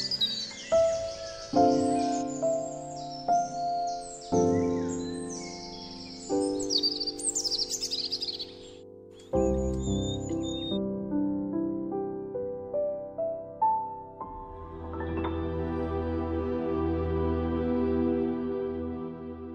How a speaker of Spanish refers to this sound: Por fin, llegó la luz del día y encontró a los pájaros cantando. Por eso, desde ese día, los pájaros cantan al amanecer.